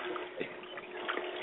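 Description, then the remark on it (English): A steady rush of running water, like a tap left on, continuing without a break at a soft, even level with faint bubbling bursts and no voices. “I hear water.”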